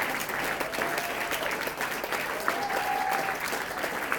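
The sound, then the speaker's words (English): Steady applause from an audience at a live music show fills the whole stretch, a dense wash of many hands clapping at once for an encore, fairly loud and continuous with a faint whistle rising partway through. “good at clapping. Wow.”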